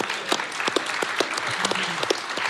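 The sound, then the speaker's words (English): A crowd applauds steadily, dense overlapping claps at an even, moderately loud level throughout, with a faint low voice briefly audible beneath. “Let's just clap that shirt through. Let's clap it up.”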